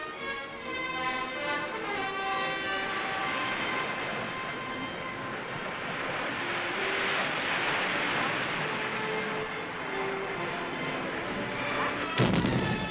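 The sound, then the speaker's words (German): A deep, continuous rumbling roar swells in the middle, then a sharp, heavy blast near the end, as depth charges dropped on submarines explode and churn the water, loud with no voices. “Wasserbomben auf U-Boote.”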